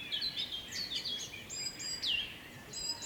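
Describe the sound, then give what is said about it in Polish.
Several birds sing at once in a May open-air chorus on the slope of a small hill at Rybotycze, bright chirps, trills and whistles overlapping continuously, with no voices present. “Ptasi majowy koncert na zboczu niewielkiego wzgórza.”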